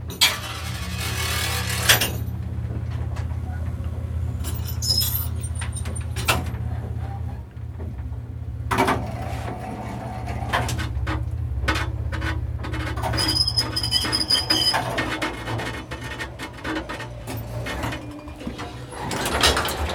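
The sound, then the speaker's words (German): An elevator runs with a steady, low motor hum, broken by clunks, rattles and scraping mechanical noises, then its sliding door grinds open as the riders step out. No one speaks. “Und jetzt könnt ihr praktisch den Aufzug akustisch genießen.”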